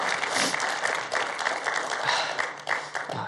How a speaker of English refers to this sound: Can we clap our hands for our guests? Thank you for being here.